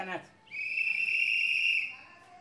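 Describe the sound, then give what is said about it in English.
A trash collector going from door to door picking up trash gives one long, steady, shrill blast on his whistle lasting about a second and a half, clear, after a brief indistinct sound at the start. “He too has a mask on his face as he goes from door to door, blowing his whistle and picking up trash.”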